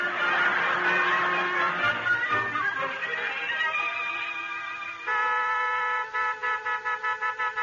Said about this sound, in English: Hey, Tacy, go out and tell Bill to lay off that horn, will you?